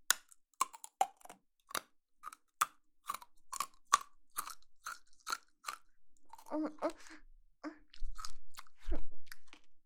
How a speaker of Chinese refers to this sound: 这个糖味道感觉有点奇怪。吐出来，我不要，我吐到哪里？我没地方吐啊。吐到你手里，你怎么不说吐到你嘴里呢？别管了，没事的，我嚼吧嚼吧，给它咽下去就行了。